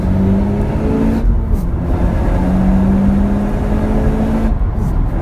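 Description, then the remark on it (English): A Honda Civic accelerates steadily, its engine note climbing through gears with a low, bubbly exhaust burble and a continuous whirring drone, fairly loud throughout with no talking. “Well, I'd say it accelerates quite well, actually.”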